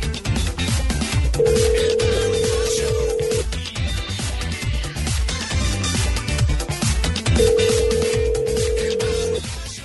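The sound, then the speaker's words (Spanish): An outgoing phone call's ringback tone, dialed for a prank call on the Panda Show, sounds twice, each a steady two-second hum separated by a long pause, playing loudly over a busy, rhythmic music bed. “Listo, señores, marcamos.”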